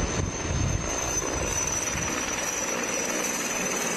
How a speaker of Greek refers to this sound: Η ώρα είναι 6:30 και ένα ελικόπτερο τύπου Έριξον έχει ξεκινήσει τις πρώτες ρήψεις νερού στους Τσακαίους.